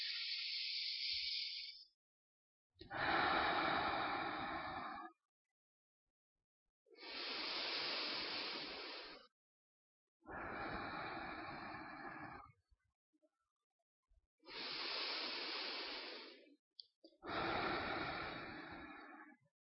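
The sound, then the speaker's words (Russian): Slow, deep breaths in a breathing exercise, about six long airy rushes of a couple of seconds each, separated by brief silent pauses, with no one speaking. “Просто глубоко дышите, фокус на сердце и на то, что происходит внутри вас.”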